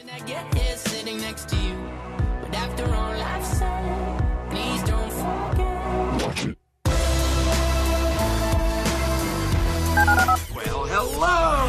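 A rapid series of touch-tone telephone dialing beeps over a loud, busy musical backdrop, with a brief silent break partway through before the tones and music resume.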